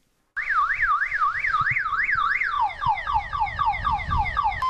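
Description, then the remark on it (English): The siren of a motorcycle ambulance designed and built in Sierra Leone by Finic blares loudly, first in a fast, even up-and-down warble, then switching to a rapid run of repeated falling whoops, with a low rumbling noise underneath throughout. “This is a motorcycle ambulance designed and constructed here in Sierra Leone by Finic.”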